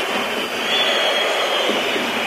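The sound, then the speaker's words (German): A football stadium crowd of about 49,000 whistles at Wolfsburg footballer Sebastian Jung on his return as he is substituted off, a loud, steady wash of shrill whistling and crowd noise that holds evenly for a couple of seconds with no voices standing out. “Pfiffe für Jung bei seiner Rückkehr.”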